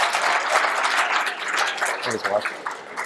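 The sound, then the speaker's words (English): An audience at an activism event claps steadily, a dense, continuous wash of many hands at fairly even loudness for about three seconds. A brief vocal shout or cheer rises over it near the end. “So give me a clap.”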